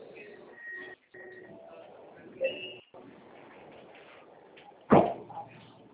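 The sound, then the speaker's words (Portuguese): Train doors closing: a few short warning tones over a steady rumbling background, then a single sharp thud as the doors shut, with faint murmuring voices. “Atenção, para o fechamento das portas.”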